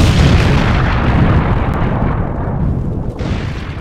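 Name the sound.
huge explosion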